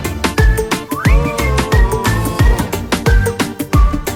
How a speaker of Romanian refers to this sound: Bagă fluiericiu, mă! Bagă, mă!